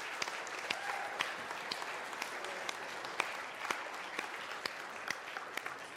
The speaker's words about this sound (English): Dads, where's the dads? Granddads, they count. Let's give our dads a round of applause.